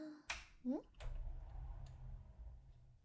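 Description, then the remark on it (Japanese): Two sharp, distinct metallic clicks with a short pause between them as a 10-yen coin twists a door lock open, with a brief vocal sound and low rumble in the background. “10 円玉で鍵開けんな。”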